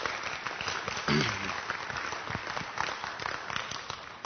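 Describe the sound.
A crowd breaks into steady applause, a dense wash of many hands clapping at close range, with a brief shout or voice rising over it early on.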